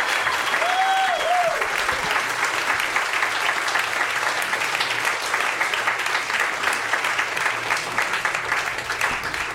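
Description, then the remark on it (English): An audience applauds steadily for the whole stretch as musician Emil Amos comes on stage to play music, a dense, even clatter of many hands clapping at a constant loud level, with a couple of brief whistles rising above it early on. “So give him a round of applause, everybody.”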